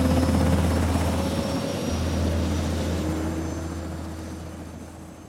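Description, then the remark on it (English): A Black Hawk helicopter lifts off into the night sky: its deep rotor thrum and engine whine are steady and loud at first, then gradually fade as the aircraft climbs away. No voices. “Then he watches the helicopter rise into the night sky.”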